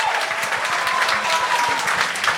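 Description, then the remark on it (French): An audience applauds a stand-up comedian steadily, a dense wash of many hands clapping at a fairly loud, even level throughout, with a faint tonal hum underneath and no talking. “Mais pour aller dans son bar, c'est vrai que l'applaudissement qu'il vient d'avoir là, c'est pas le même qu'il y a eu à l'entrée, genre.”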